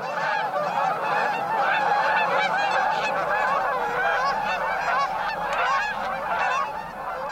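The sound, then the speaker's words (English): A large flock of migrating birds, likely geese, flying in V formation honks continuously, many overlapping calls forming a dense, steady chorus that stays loud throughout without any talking. “So migrating birds, it appears, form V formations to combine the benefits of aerial updrafts and communication.”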